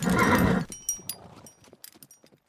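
A jet black horse pulling a chariot lets out a loud whinny, then its hooves clip-clop in a loose, uneven patter that fades as it is reined to a halt.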